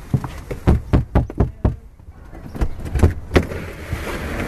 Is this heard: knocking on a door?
yes